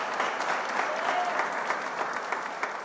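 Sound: audience applauding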